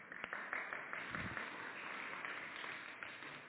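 A crowd claps together in a steady, dense burst of applause lasting a few seconds, a continuous patter of many hands at a fairly soft level with no talking over it, for a volunteer called up to the front.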